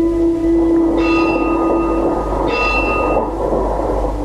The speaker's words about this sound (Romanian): Trece tramvaiul numărul 7, parcă trece prin pământ.